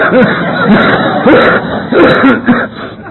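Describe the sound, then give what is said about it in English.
A loud run of coughing and throat-clearing from a person with walking bronchial pneumonia or bronchitis: about five rough, raspy bursts in quick succession, with brief gaps between them and no clear speech. “You know, it's a cough.”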